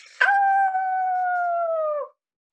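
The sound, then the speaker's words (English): A single long, steady howl from a human voice imitating a wolf, rising sharply then holding a high tone for about two seconds before tapering off slightly lower. Loud, no other sounds. “Wolves don't roar, they howl.”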